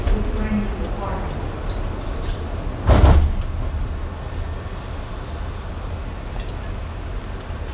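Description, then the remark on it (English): Sliding doors on an airport shuttle train close with a single solid thump, set against the steady low rumble and hum of the train's interior. “Please stand clear of the doors. Doors are about to close.”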